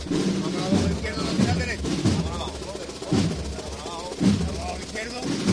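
A snare drum roll by the band, waiting for the pallium to come out in the Baratillo procession, rattles continuously, punctuated by heavy accented beats about once a second, with brass tones and crowd murmur woven underneath.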